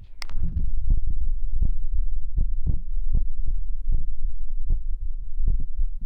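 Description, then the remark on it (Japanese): A heartbeat picked up against the breast, right and then left, steady muffled thumps about once a second over a constant low rumble, with no voices. “心音が聞こえるかな。”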